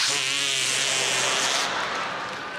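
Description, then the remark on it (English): A sustained, buzzy flatulent noise made with a hand pressed under the arm, rough and loud for over two seconds, with a low droning tone in the first half before trailing off. “Or as we called it in New York, the artificial fart under the arm.”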